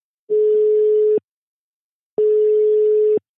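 A telephone ringing tone heard on an outgoing call to a listener: two long, steady, even-pitched beeps about a second each, separated by a short silence, clear and alone with no voices.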